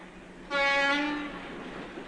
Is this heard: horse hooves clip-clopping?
no